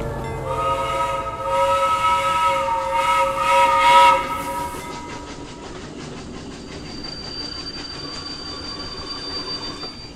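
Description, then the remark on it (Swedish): An old locomotive-hauled train rolls in on the rails, its shrill whistle or squealing wheels sounding loudly for several seconds before fading into a steady mechanical rumble and clatter. “Jo, nu kommer det en. En vadå? En tåg. Oh, vilket vackert gammalt lok.”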